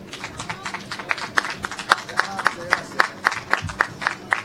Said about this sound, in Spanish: Bueno, calentamos poco con los aplausos.